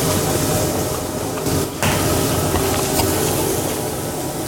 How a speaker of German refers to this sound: Wir sind schon jetzt da wieder in die Pfanne, da sind jetzt unsere dreifärbigen Karotten zusammen mit Rotkraut brutzeln da drinnen und wird schon? Wird schon, ja.